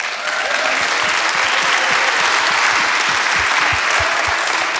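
Sustained audience applause, a dense wash of many hands clapping at steady loudness for the whole stretch, with individual claps popping out of the broad noisy texture and no voices on top.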